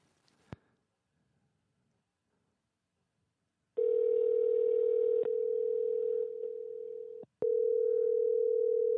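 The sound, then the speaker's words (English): A click, then a few seconds of near silence before a loud, steady telephone dial tone hums for several seconds as someone tries to call back after a call was lost, briefly cutting out with a click and returning. “Let me try calling her back.”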